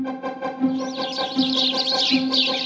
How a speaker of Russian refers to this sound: На черемухе опять шум и гам. Слетевшиеся воробьи разрабатывают грандиозный план знакомства Хани с новой хозяйкой.